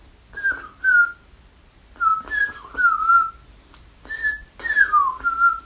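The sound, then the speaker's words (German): A person whistles an imitation of mistle thrush song: three short groups of clear, fluting notes, some sliding downward, separated by brief pauses. No one speaks. “Die hat so einen Spitznamen bekommen von meinem Freund Greg, der nennt sie Vermisteldrossel, weil sie immer so einsam ist und ihr Gesang ist so.”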